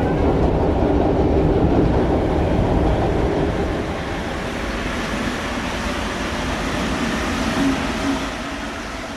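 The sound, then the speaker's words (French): A metro train rumbles steadily along the rails, a loud, continuous roar of wheels and carriages that eases slightly partway through, with no voices. “Métro, chef de train qui s'embête et joue sur sa trompette un petit air rigolo, c'est le métro.”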